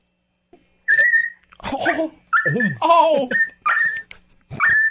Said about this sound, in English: Leave the dog alone. Leave the dog alone. Hold my beer. I'm going to deal with that dog once and for all.